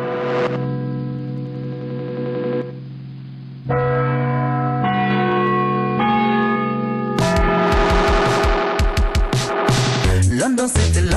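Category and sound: signal or alarm, bells ringing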